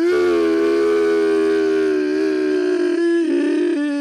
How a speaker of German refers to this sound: Würdest du bitte einen Jingle machen? Oder möchtest du noch etwas ergänzen?